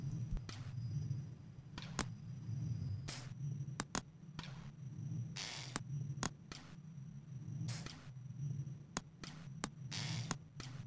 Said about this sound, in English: Those little ticks in the background you're hearing are actually the slave miners swinging their pickaxes into the rocks.